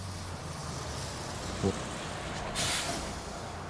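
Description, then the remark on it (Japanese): A bus engine rumbles steadily, a brief thump breaks in, then the air brakes let out a sharp, loud hiss of released air as the bus pulls up. “このバスに？”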